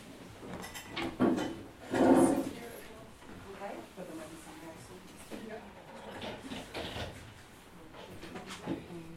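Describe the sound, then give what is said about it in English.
Chairs scrape and clatter as they're shifted around a room to add more seats for the audience at a philosophy talk, with two louder drags near the start and softer shuffling after, over a low murmur of indistinct voices. “Maybe if everyone in this row could move that way, then we can put a couple more chairs that way.”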